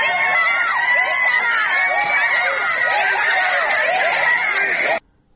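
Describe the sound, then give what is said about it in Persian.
A large crowd of protesters, some injured, chants the slogan "bisharaf" ("dishonorable") while government agents attack the gathering with tear gas; many overlapping voices form a loud, continuous roar that holds steady for about five seconds before cutting off abruptly. “ویدیوهای منتشر شده در شبکه‌های اجتماعی نشان می‌دهد که ماموران حکومتی با شلیک گاز اشک‌آور به این تجمع یورش بردند و معترضان آسیب دیده با مقاومت در برابر این یورش شعار بی‌شرف سر دادند.”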